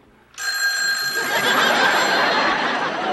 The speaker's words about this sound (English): don't answer the phone. Why not? Because we don't want anybody to know what we're doing.